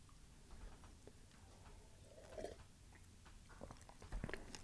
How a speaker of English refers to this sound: You'll notice you do have to chew, which is a fun part of the strawberry drink. This is strawberries are one of our medicines. And this drink is mashed up strawberries, and you can sweeten it with any sweetener. I used maple syrup.